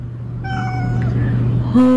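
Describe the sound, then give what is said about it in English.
A cat meows in long, drawn-out, tuneful yowls, singing along to a Christmas carol over a steady low hum, ending on a sudden louder, higher note. “Like when you just sing Christmas carols with your cat.”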